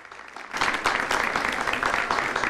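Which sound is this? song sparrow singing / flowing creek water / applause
applause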